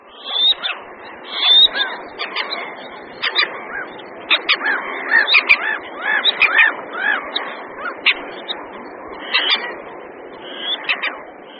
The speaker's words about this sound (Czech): Vodní pták, jehož nepříliš nápadný hlas jsme právě slyšeli, je potápka černokrká. Patří ke skupině několika druhů potápek, což jsou ptáci vysoce uspůsobení vodnímu životu.